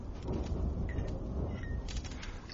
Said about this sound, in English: The storm's getting more tense.